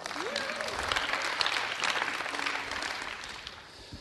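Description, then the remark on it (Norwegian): A crowd claps steadily for a young woman for a few seconds, dense, with a faint voice or two underneath before the applause tapers off near the end. “Ta så gi denne unge kvinnen en applaus her.”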